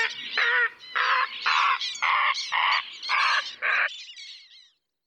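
Summer birds such as martins, warblers and herons call out in a run of about eight harsh, raspy bursts in quick succession, loud, with a fading trill at the end.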